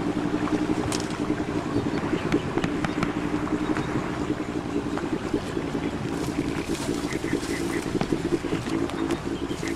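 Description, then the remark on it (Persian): A patrol boat engine drones steadily, a loud, continuous low hum with faint splashing and rattling over it, and no voices. “قایق گشتیشون را دست بردار نیستم.”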